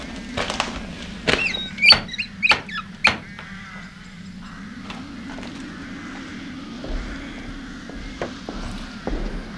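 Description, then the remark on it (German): A burst of sharp knocks on the door of a castle, about half a dozen loud, uneven raps, followed by a few fainter taps over a steady low background hum. “Das ist jetzt egal. Ich klopf trotzdem mal.”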